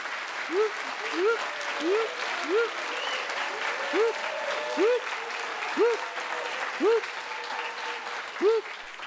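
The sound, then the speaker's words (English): Steady, dense applause fills the whole stretch at moderate volume during a test of an applause meter, with the meter's short rising-and-falling electronic whoop tone repeating roughly every second over the top. “Test out the applause meter. Watch it go up and down.”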